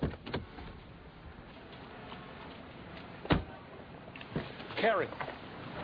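Someone hurriedly jumps out of a car: sharp clicks and thumps of the car door opening and moving, shuffling, then a squeaky mechanical whir.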